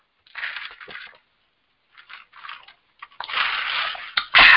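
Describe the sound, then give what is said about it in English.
Sipping from a drink: a few short, wet slurping bursts, then a longer, louder slurp and a final gulp-like noise near the end, with no talking. “Had to get me a little sip”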